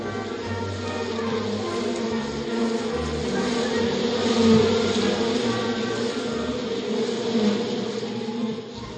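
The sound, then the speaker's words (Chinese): A dense swarm of hornets buzzes continuously for the whole stretch, a thick, droning hum that is fairly loud, swelling slightly midway, with no voices. “报告女王，大黄蜂就要来攻打我们了。”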